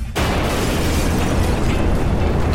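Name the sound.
explosion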